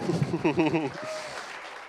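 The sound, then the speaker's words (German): A voice speaks briefly in German, then a crowd breaks into steady, moderately loud applause for themselves after reciting the fruit of the Spirit verse together, a dense wash of clapping that continues evenly to the end. “Wenn du die Liebe des Vaters, sehr gut, Applaus an euch selber.”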